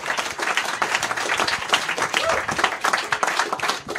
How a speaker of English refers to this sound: How about a round of applause for both of them, man? So goddamn good.